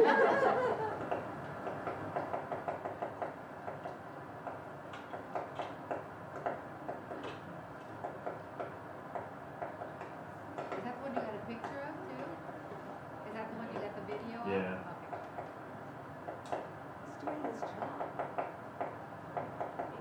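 A woodpecker taps on a dead tree in a burned area in a steady series of short, sharp knocks, repeated through the whole stretch with brief pauses, over a faint outdoor background.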